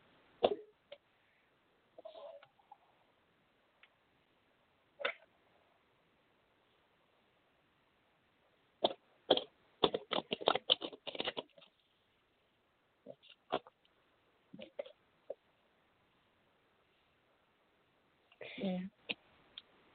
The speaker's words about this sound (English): Okay. Let me just shuffle the cards real quick.